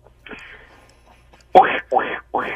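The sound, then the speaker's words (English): After a brief quiet lead-in with faint murmuring, a person imitates a duck in a 'Quack Attack', with three loud, nasal quacks in quick, evenly spaced succession. “It's time for you to say quack, quack.”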